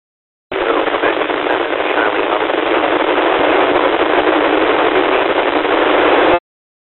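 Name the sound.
radio static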